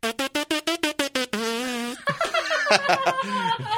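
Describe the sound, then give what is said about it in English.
Lips buzz without a trumpet mouthpiece, first in eight short repeated pulses on one pitch, then a longer sustained buzz, followed by a wavering, sliding buzz that rises and falls in pitch. “So I can even create pitches without the mouthpiece, like...”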